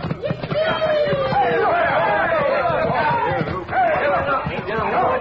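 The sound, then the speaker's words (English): A loud, chaotic crowd commotion as two horses trailing a rope between them knock people down into the mud: many voices shouting and clamoring at once in a dense, continuous uproar, with scattered thumps and scuffling beneath the din, lasting several seconds. “Look at the crowd. All tangled up in the mud.”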